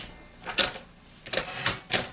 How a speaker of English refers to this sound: I miss this. I love the bell on a typewriter. I kind of miss this, too.